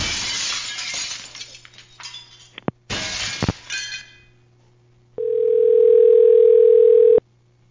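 A loud crash of glass shattering, with a second burst of breaking shards and tinkling debris, followed by a steady electronic telephone dial tone that hums for a couple of seconds before cutting off.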